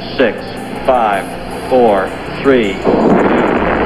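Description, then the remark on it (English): Saturn V rocket engines roar at liftoff of an Apollo moon mission, building up to 7.6 million pounds of thrust as the rocket clears the tower; a broad rushing rumble swells loudly near the end beneath a man's voice calling out the countdown in short, evenly spaced words. “We have commit and we have liftoff at 2:13. The Saturn V building up to 7.6 million pounds of thrust, and it is clear the tower.”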